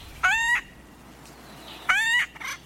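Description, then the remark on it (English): Two harsh, nasal acorn woodpecker calls, each about a third of a second long with a slightly rising, buzzy pitch, separated by a pause of over a second. A softer call follows, and nobody speaks. “Acorn woodpeckers are extremely social.”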